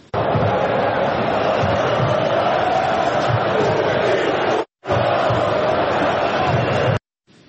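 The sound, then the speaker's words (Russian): Georgia national team football fans chant loudly in unison during the Georgia–Turkey match at Euro 2024, an unflattering chant aimed at the Russian president: a dense continuous roar of voices that cuts out briefly near the middle, resumes at full strength, then stops abruptly. “Ну, такое нелицеприятное высказывание болельщиков сборной Грузии в сторону президента России.”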